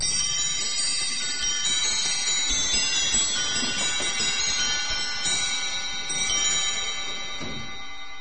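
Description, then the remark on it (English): Steady clock ticking runs through a dense, shimmering layer of metallic, bell-like ringing that holds for the whole stretch, fairly loud, with no voices. “The clock's motor is as old as mankind.”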